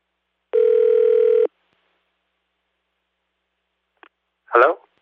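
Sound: telephone dialing and ringing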